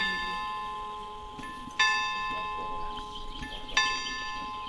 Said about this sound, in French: Les cloches sonnent 13h et viennent à peine troubler la tranquillité de l'endroit. En plein cœur de Paris, ce jardin immense d'un hectare surprend tant il est insoupçonnable depuis la rue.